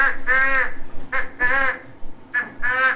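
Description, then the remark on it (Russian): Geese and swans calling: three loud, nasal honking calls, each about half a second long, repeated at a steady pace with short gaps between them. “Узнали, кто это? Гуси-лебеди! Правильно, гуси-лебеди.”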